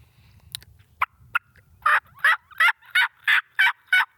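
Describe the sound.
An imitated turkey hen plain yelp: a few sparse, uneven opening notes with a brief squeaky slip, then a steady run of about seven loud, raspy, evenly spaced yelps.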